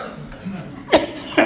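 A man coughs twice in quick succession, two short, harsh bursts about half a second apart, fairly close and loud over a low, quiet room background.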